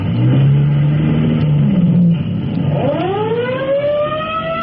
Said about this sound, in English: Let's go to Fire Department headquarters just in time to join Chief Cody as he rolls in his car to answer an alarm.